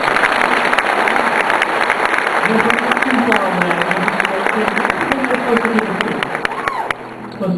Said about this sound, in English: It might be an arts organization. The Chelsea Symphony, please give them a round of applause.